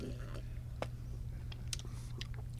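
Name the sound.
sipping beer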